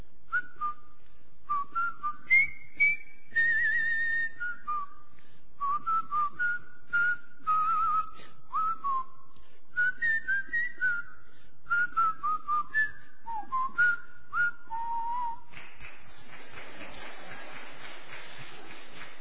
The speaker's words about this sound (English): And the theme song that I can still whistle and do now sometimes is Colonel Bogey's March. Whistle it with me.